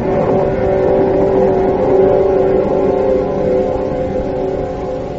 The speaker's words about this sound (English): And then, there was the most terrible, grinding roar as if some monstrous animal had ripped the entire bottom out of the boat.